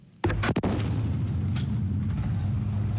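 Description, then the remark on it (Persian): Loud gunfire from Kurdish fighters targeting Islamic State group positions in the city of Raqqa, northern Syria, cracks out in a quick cluster of sharp shots, followed by a heavy, rumbling din of firing and booming that continues steadily to the end. “شما آواز شلیک جنگجویان کردی را می شنوید که مواضع گروه دولت اسلامی را در نزدیکی مرکز خود اعلام کرده آنان در شهر رقه در شمال سوریه هدف قرار می دهند.”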